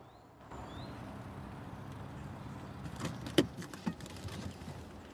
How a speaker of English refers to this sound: A cloud of dust blows up behind the car as James pulls up.